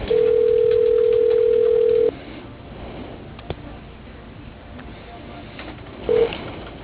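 A telephone call to RFC Tree Service rings once over the line, a steady low-pitched tone lasting about two seconds, followed by quiet line hiss and then a brief, short beep near the end, before the voicemail answers.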